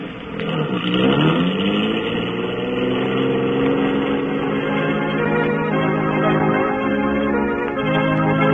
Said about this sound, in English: There's the police station in the middle of the block, Lothar. Those two green lights with the cars just pulling away.